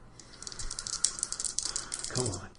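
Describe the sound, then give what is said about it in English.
Dice rattle and clatter in quick bursts across a hard surface as they are rolled in a game, with sixes counted as successes, and a voice briefly murmurs near the end. “You get two successes on two dice? That's too many dice. Roll those.”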